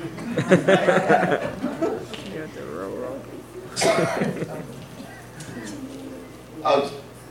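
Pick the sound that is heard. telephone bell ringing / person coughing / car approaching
person coughing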